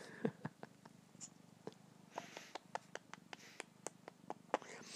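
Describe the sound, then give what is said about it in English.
A male cat purrs steadily while nuzzling, a low continuous rumble running through the whole stretch, broken by frequent short, sharp clicks and rustles, with no talking. “He's purring and meowing.”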